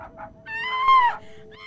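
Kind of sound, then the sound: human body sound, woman screaming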